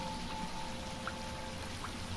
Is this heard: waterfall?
yes